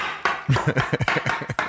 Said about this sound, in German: Ah, Moment, es nähern sich Schritte.